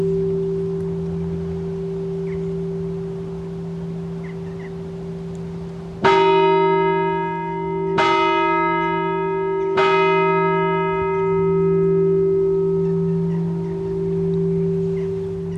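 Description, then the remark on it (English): A monastery's Advent bell tolls three times, about two seconds apart, each stroke ringing out fully and lingering into the next, calling the monks in from the fields for their lunch, over a steady low background hum with no one talking. “And that's the Advent bell now ringing, calling all the monks who are in the fields to come in for their lunch.”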